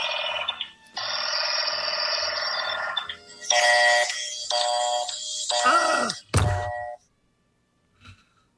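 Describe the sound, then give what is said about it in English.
A telephone handset gives off a steady tone, then a series of bursts of ringing tones as a woman dials a number and listens, before she slams down the receiver in irritation with a sharp thud. Silence follows, with a faint click at the end. “Mrs. Stevenson is dialing a number on the phone. She listens to the phone, slams down the receiver in irritation.”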